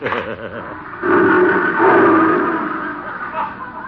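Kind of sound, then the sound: animal, lion roaring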